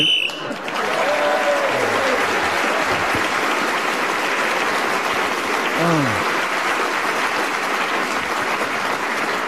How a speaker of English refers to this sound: I think that applause was for your deprived childhood, Fred, as much as anything else.